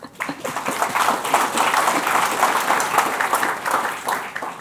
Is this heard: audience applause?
yes